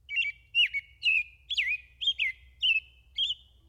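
A bird sings a quick series of about eight bright, chirping phrases, evenly spaced and clear against a quiet background with a faint low rumble.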